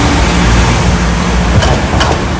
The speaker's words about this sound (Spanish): Eso, ahí ya sonó un poquito la suspensión del coche.